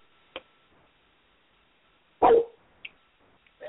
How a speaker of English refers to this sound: Sorry, my dogs are barking at other dogs outside.